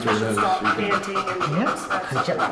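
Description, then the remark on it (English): A female dog pants rapidly and steadily, her quick breaths repeating in an even rhythm while a voice murmurs in the background, as trainers grade her performance on a checklist. “Oh, you can hear the difference in her breathing pattern.”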